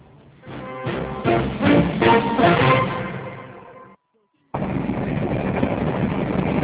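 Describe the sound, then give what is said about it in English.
A train rumbles past on railway tracks in downtown Beijing, a loud, steady roar with a droning hum layered in. It cuts out abruptly for half a second, then the heavy clatter resumes just as loudly. “With the decibel level this high, it's not such a good idea to live anywhere near the railway tracks.”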